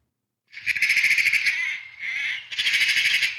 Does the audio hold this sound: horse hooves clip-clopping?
no